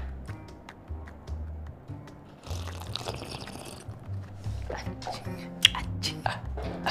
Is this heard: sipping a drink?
yes